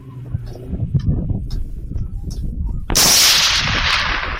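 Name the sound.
rifle gunshot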